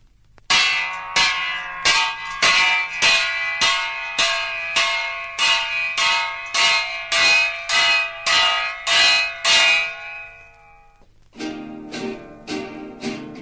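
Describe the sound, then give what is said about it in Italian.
A church bell rings in a steady series of loud, resonant strikes, each ringing into the next, followed by a quicker, brighter run of bell tones near the end. No voices. “Suonate sta campana, suonate sta campana.”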